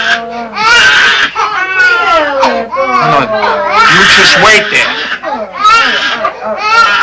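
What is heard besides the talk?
baby crying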